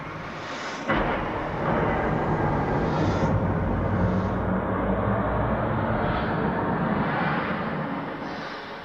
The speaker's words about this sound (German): Jawohl, die Rakete ist gestartet. Die Leute jubeln. Und schon ist sie in den Wolken verschwunden.